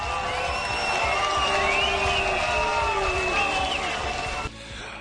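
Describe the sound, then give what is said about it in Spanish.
A large crowd boos and jeers loudly at Manuel Valls during the memorial tribute in Nice, many voices blending into a dense, sustained roar with whistles mixed in, cutting off abruptly just before the end. “Abucheos para Manuel Valls en el homenaje en Niza.”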